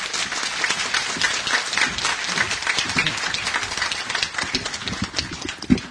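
Sustained conference audience applause welcoming the GC President fills the whole stretch, a dense wash of many hands clapping at steady loudness, with no one speaking over it.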